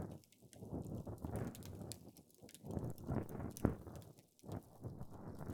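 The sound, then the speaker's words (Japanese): Scratchy scraping and rustling against the ear, coming in irregular strokes with brief pauses, an ear pick cleaning inside the ear canal. No one speaks. “現に今、耳かきで眠くなっている方がおりますし、安眠効果があるというのは嘘ではなさそうですね。”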